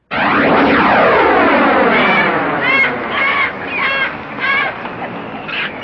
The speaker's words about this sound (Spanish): ¡Ese ruido infernal! ¡Allá, oh, en el cielo! ¡Son simios! ¡Sí, pero vuelan!